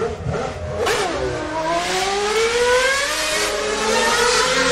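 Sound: racing car engine revving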